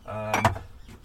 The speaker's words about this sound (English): And I'm just opening up the rest of the window so we can get some fresh air in.